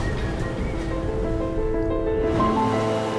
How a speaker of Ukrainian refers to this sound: Барбадос – це острів-пляж. Із заходу його омиває Карибське море. Узбережжя там тихі, хвилі ніжні, а пісок як цукрова пудра.